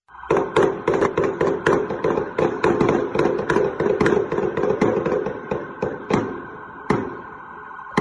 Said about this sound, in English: All right, part of that gun battle there.